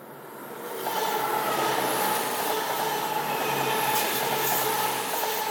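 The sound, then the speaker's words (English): A train rumbles past, a steady broad roar that swells within the first second and holds loud throughout, with a faint steady tone running through the noise. No one speaks. “Oh, train, hang on.”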